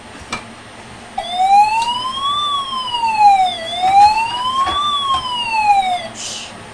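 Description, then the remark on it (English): A wailing electronic siren, activated by pressing a button, starts abruptly and sweeps slowly up and down in pitch, fairly loud, like a toy siren, with faint background noise and no talking over it. “Siren once, and then it goes down if you keep pressing it.”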